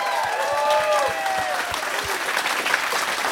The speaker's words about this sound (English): Let's give another round of applause for the crew of the Westerdam. That's fantastic.